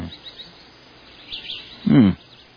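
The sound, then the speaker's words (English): Vultures calling outdoors, with faint scattered chirps at first, then one louder, harsh, rasping call near the end against a quiet background. “Vultures, huh? Let's get a closer look at those birds.”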